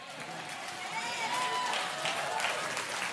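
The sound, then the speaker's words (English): A crowd claps steadily at moderate loudness, a dense wash of overlapping hand claps that holds for about three seconds, with faint voices and a brief whistle-like tone mixed in. “I didn't say that just to get you to clap or something.”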